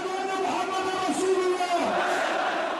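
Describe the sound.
A large crowd at a mass protest rally, held at the funeral of an 86-year-old religious leader in Homs, Syria, shouts together in a steady, unbroken roar, with raised chanting tones rising above the dense mass of sound throughout.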